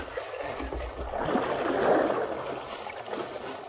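Rushing river water churns and splashes steadily around a canoe in the seething, madly racing stream of the White Horse Rapids, swelling to a louder surge midway before easing slightly, with a constant broad hiss and no voices.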